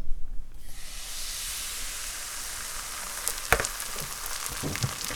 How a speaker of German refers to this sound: Wir nehmen Sonnenblumenöl. Okay. Wir haben eine relativ große Pfanne, darum nehmen wir einen ganzen Schöpfer und geben den Teig in die Pfanne.